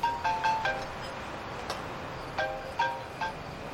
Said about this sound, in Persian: یا یکیشون همین الان زنگ زد. ولم نمی‌کنن که گوشیمو سوراخ کردن.